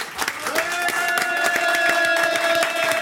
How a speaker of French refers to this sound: J'ai eu un prix à New York, ouais, au Chelsea Film Festival, il y a un an et demi maintenant, et ça a été la première sortie publique du film, donc c'était un très bon démarrage. Ça s'applaudit, ça, quand même, excusez-moi.